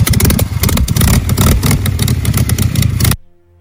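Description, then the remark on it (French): A motorcycle engine is restarted and revs loudly in rough, pulsing bursts for about three seconds, then cuts off abruptly into near silence. “Il redémarre la moto.”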